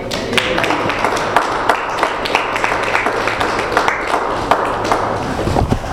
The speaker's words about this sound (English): Thank both of our speakers. How about we give them another round of applause?